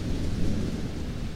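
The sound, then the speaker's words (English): Steady, heavy rain pours continuously with a deep, rumbling low end, like a storm. The sound stays dense and even throughout, with no voices. “You'd think the rain would put out the fire, but...”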